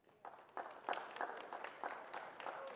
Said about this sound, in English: Are there any Democrats in the house? Just clap. Okay, that's okay. I hear you.